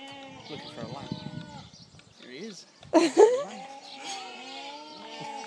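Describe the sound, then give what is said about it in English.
Several sheep bleat in overlapping, wavering calls, with one loud bleat bursting out near the middle before softer cries continue. “Singing sheep.”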